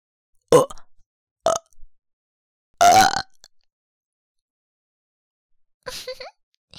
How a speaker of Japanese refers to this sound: 次は、連続ゲップ。せーの。